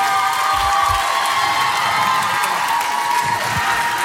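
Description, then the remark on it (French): A crowd at a music awards ceremony cheers and applauds a live duo performance loudly and steadily, a dense wash of clapping and shouts with a few deep thumps underneath, holding at full volume for the whole four seconds. “On les applaudit, franchement.”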